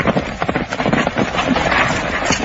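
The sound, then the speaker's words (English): Horse hooves clip-clop in a quick, steady rhythm, loud, against a dense, noisy background with no voices. “Get his horse.”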